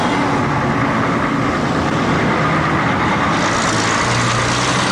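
A large vehicle's engine rumbles steadily, a loud continuous low drone with a faint rising hum near the end, like a bus idling or pulling away, with no talking.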